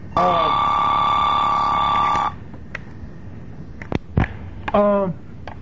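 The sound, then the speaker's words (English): A phone rings with a loud, steady electronic tone lasting about two seconds, then cuts off. A few sharp clicks and a brief voice follow. “Move that phone.”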